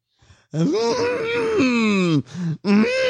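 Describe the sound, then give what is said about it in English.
A drowsy, barely responsive woman who is high lets out a long, drawn-out moaning groan with a rough, Chewbacca-like growl, then two shorter groaning bursts after a brief pause, fairly loud. “Is she Chewbacca? Is she Chewbacca? Are you still breathing?”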